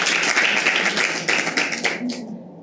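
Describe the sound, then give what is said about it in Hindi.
A burst of audience clapping, dense and steady for a couple of seconds, many hands overlapping before it thins out and trails off at the end. “हाँ, उनके लिए तालियां बजाओ एकदम इमीडिएट।”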